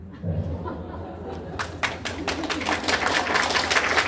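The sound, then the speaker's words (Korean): An audience breaks into clapping, starting with a few scattered claps and swelling into dense, steady applause that grows louder toward the end, over a low murmur of voices. “아니, 박수치기니까. 박수치기니까 아니고.”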